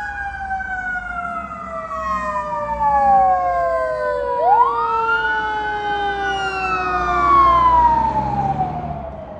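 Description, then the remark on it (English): A fire truck with its lights on wails its siren continuously as it goes onto the highway, its gliding tones sweeping down and back up as it passes by, with a low engine and road rumble underneath and no talking. “Was a fire truck, in case you didn't notice, going onto the highway.”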